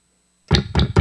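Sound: knocking on a door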